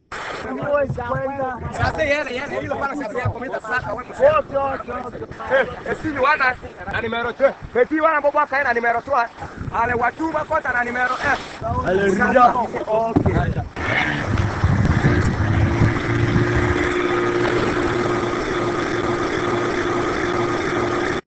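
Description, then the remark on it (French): A man talks for several seconds, then the outboard motor of a 3 to 4 metre fishing pirogue on Lake Albert, at Tchoumia about 55 km south of Bunia, starts up and drones loudly and steadily, a rough, buzzing hum that continues to the end. “ici ce sont des pirogues de 3 à 4 mètres, donc ce ne sont pas des bateaux, mais qui utilisent presque toutes des moteurs”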